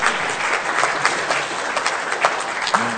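A group of people claps steadily for about three seconds, a dense, crackly patter of many hands with occasional sharper claps standing out, fairly loud and continuous.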